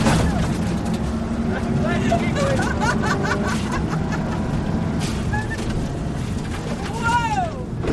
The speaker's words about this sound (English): The car skids from turn to turn, goes over a jump, and finally comes to rest in line behind the other cars, waiting to be sent off again back toward the start.